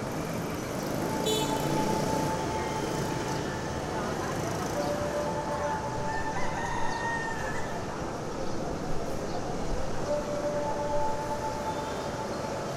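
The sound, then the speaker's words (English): A steady wash of city street traffic, a constant dense rumble with faint, drawn-out horn or siren-like tones drifting in and out, coming in on the breeze through the shuttered balconies of a three-storied villa. “Each three-storied building graced with shuttered balconies that block out the high sun, but allow the city din of traffic and roosters and sparrows to come in on the breeze.”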